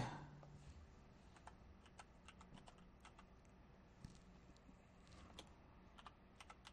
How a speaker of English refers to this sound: Sorry about the slow typing. I'm used to a Mac. I am just not used to typing on this thing.